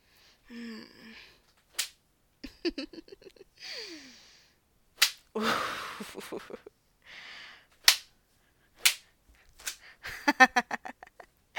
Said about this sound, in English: I think I could whip you forever. You're starting to get a little color there.